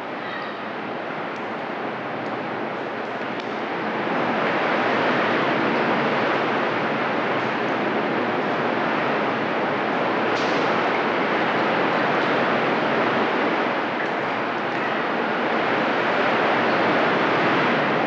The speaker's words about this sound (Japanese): この日、飛島付近は50センチにも満たない穏やかな波でしたが、無人島付近は波が荒く、上陸するだけで一苦労しました。